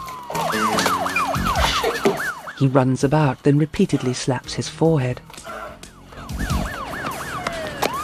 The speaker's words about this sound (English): sighs with relief hearing the sirens.